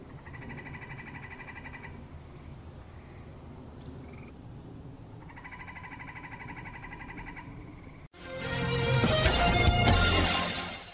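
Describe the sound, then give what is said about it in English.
Tree frogs in the woodlands give two long, rapid pulsing trills separated by a few seconds of quiet night ambience, clear, before loud music abruptly cuts in. “Tree frogs.”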